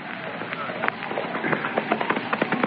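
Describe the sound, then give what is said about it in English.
A horse gallops up with its rider, a quick run of sharp clopping beats over a hissy background that grows louder and more rapid toward the end. “I rode on ahead to bring you the new stuff.”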